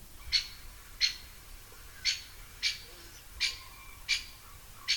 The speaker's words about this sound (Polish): Stukotu uderzenia o pień nie usłyszeliśmy. Nie, właśnie. I to dzieci też może po części czują się rozczarowane, natomiast zawsze im mówię, bo to przed chwilą słuchaliśmy dzięcioła dużego